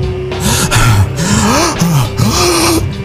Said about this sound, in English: A desperate ghoul reaches from the abyss, grabs and rips my oxygen mask off of my face, just as more astronaut joggers subdue and hold my head back while I gasp for air.